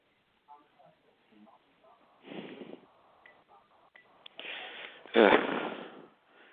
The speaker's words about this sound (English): This is not a prank call. That was a grunt, for God's sakes.